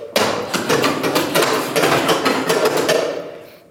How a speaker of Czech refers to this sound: Já si tipnu ždímačka? Ruční pračka od Bordovských z Holasovic.